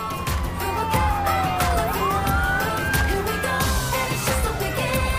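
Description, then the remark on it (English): Police sirens wail as police vehicles with flashing lights drive up to H.B. Whitaker High School at night, the rising and falling tones sweeping up and down over a steady rumble of engines and street noise, loud throughout. “Police vehicles drive up to the school with their lights flashing.”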